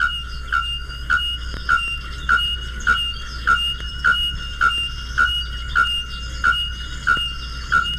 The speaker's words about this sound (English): This is the ringing mating note of the bare-throated bell bird.